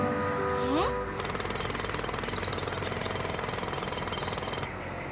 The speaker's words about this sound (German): Stopp. Nicht über die Baustelle gehen.